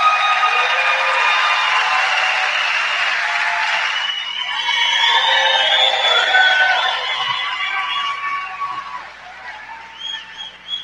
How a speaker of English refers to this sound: Everybody give … a round of applause.